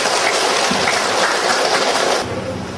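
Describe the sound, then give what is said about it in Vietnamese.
A Buddhist audience at Kim Phước temple in Tiền Giang applauds to welcome a visiting venerable lecturer, dense, steady clapping that stays loud for about two seconds, then thins out and drops to a softer wash near the end. “Bây giờ đây mời toàn thể đạo tràng chúng ta cho một tràng pháo tay để cung nhân.”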